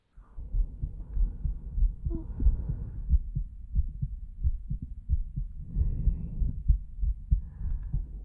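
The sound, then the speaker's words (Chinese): A muffled heartbeat thumps in a steady, fairly quick rhythm, deep and soft, heard with an ear resting on a person's chest, with a faint low rumble and rustle underneath. “没关系了，因为有必要在你的身上留下我的味道，所以让你枕在我的胸口听心跳也是没有问题的。”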